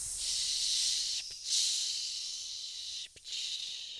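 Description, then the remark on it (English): A heavy-duty decontamination system sprays with a steady, high-pitched hiss for several seconds, broken by two brief dips where the spray sputters before resuming at the same strong level. “We have to get decontaminated first.”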